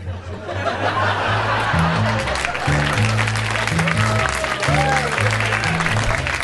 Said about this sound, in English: I need that sporadic applause on the CD, boy. That applause will be duplicated. It's gonna be after every joke.